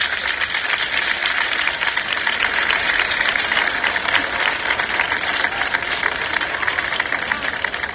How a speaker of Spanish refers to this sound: Para ellos, por favor, un fuerte aplauso.